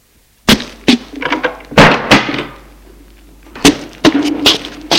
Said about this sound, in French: Et il ferme la porte.